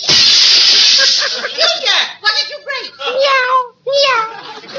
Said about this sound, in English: You see, it wasn't him after all. It was a cat.